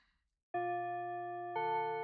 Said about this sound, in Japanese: ああ、ほら、みんなも聞こえただろ？チャイムも鳴ったし、そろそろ教室に向かおう。